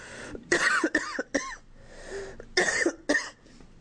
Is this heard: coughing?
yes